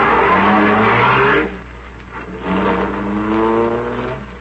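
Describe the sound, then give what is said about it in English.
A car engine revs loudly, surging in two strong bursts with a brief dip between, its pitch climbing as the car pulls away. No voices are heard. “Choke the motor, lady. Well, it sounds like it's choking now.”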